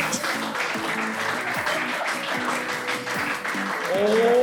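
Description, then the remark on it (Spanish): An audience applauds steadily for several seconds, a dense wash of clapping with some voices and whoops rising over it, swelling slightly louder toward the end. “Un aplauso para Tommy Glute, ya volvemos.”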